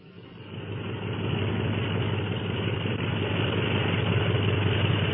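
Aircraft engines rumble as planes taxi out of a secret hangar for takeoff, led by a black and silver plane; a deep steady drone swells during the first second and then holds loud and even, with no voices.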